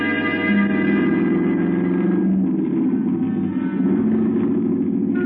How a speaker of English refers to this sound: I slipped the car into gear. I motioned Torkel into the front seat and started down the pass into the desert valley.